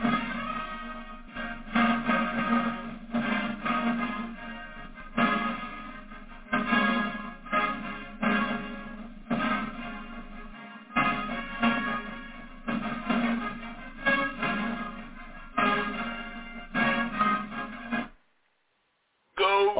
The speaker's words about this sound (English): It's nice to hear the Princeton fight song again.